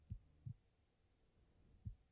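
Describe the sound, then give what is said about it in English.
A muffled heartbeat thumps low and soft, heard with a head resting against a person's chest, three beats with a steady rhythm over a quiet background hum, no voices present. “Can you hear my heartbeat?”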